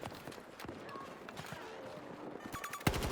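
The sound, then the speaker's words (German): Video game gunfire: scattered sharp shots crack through a busy, noisy mix, then a rapid burst of fire breaks out near the end, followed by a sudden louder blast. “Okay, die Schüsse sind durchgeflogen.”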